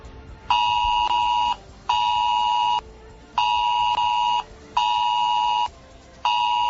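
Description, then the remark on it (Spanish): A mobile phone's test emergency alert tone, in the municipality of Garachico on Tenerife, blares in loud, steady-pitched bursts, roughly one second each, repeating four times with brief gaps between them; no one speaks. “Se trata del mensaje de alerta que va a llegar a tu móvil.”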